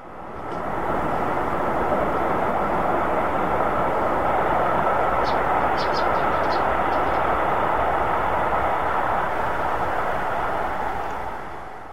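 A train rumbles loudly close by in the Swiss countryside, a dull, steady roar lasting the whole stretch, with a few faint metallic squeals partway through before it eases off at the end.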